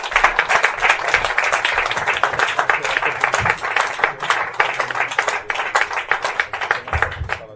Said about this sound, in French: tenez, demander un tonnerre de triomphe ou d'applaudissements pour Monsieur Perrier-Bertrand, s'il vous plaît.